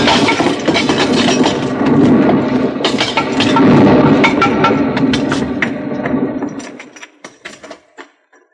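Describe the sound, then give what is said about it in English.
A heavy, sustained crash of tumbling rock, ore and debris, set off by a strike with an old pick, roars for several seconds, then thins into scattered clattering bits of rubble that settle and fade out. “Here, let me help you out of that pile of rubble.”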